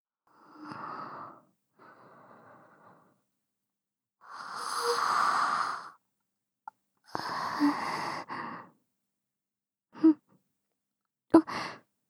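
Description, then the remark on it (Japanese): A drawn-out, breathy yawn late at night while lying beside someone in bed, surrounded by soft sighing exhales and a couple of short sharp intakes of breath, with quiet pauses in between and no talking. “もう遅い時間ですもの。あくびくらい出てしまいますわ。”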